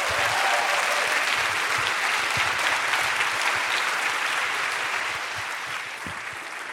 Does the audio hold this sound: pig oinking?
no